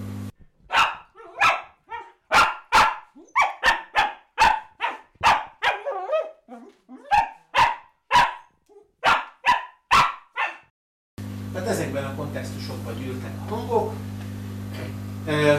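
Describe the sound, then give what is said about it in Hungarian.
A dog barks rapidly and excitedly before a walk, a loud string of sharp barks for about eleven seconds, ending abruptly as a steady background hum takes over. “És a séta előtti kontextus, ugye ezt már mondtam, sok kutya élénk ugatásban tör ki annak a jeleire, vagy közlésére, hogy a gazda sétálni fogja őt.”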